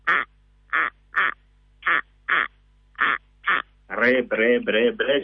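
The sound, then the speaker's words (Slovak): A corncrake calls with dry, rasping notes in loose pairs, repeated at a steady rhythm, then breaks into a denser, harsher run of grating calls at the end. It sounds loud. “A volá sa chrapkáč polný. A si predstavte, on celú noc takto rka”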